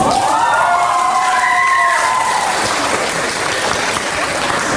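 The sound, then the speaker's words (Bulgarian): Loud, stormy applause from a large crowd of university applicants greeting the second exam topic, a comparison of two quotations, at an entrance exam; a dense continuous clatter of clapping with a few cheers and whistles rising over it at the start. “С бурни ръкопляскания кандидат студентите приеха и втората тема, сравнение на два цитата.”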